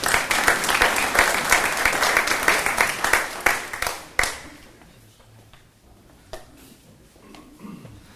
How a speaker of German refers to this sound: Ich danke meiner Standgruppe. Einen kleinen Applaus für die Steher.